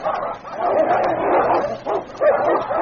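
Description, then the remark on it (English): Two large dogs snarl, bark and yelp in a frantic fight, grappling and rolling over and over, each going for the other's throat; the sounds overlap continuously with sharp yips breaking through the growling. “Time and again, the two great dogs came to grips, then rolling over and over, each seeking the other's throat.”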